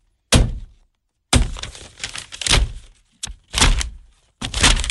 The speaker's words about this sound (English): And it's the wind hitting the blind. Okay, the wind is hitting the blind. The blinds, right. Banging against the window frame.